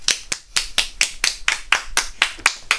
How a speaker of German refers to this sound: Und Holland hat es geschafft. Denn in Holland fahren 30% der Leute mit dem Fahrrad. Applaus für Holland!